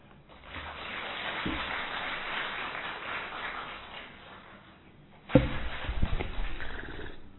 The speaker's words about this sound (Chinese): 感谢主给我这个平台，也感谢大家给我这么热烈掌声鼓励。